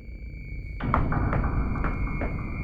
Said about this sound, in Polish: Kto to znowu puka? Muszę sprawdzić, kto idzie.